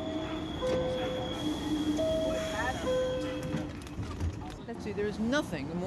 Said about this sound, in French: Ça, c'est la ligne de métro rouge.